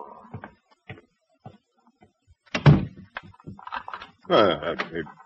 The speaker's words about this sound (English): I just locked the door. Well, unlock it.